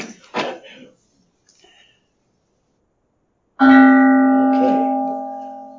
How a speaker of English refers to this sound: The bell. We start with the bell. We end with the bell.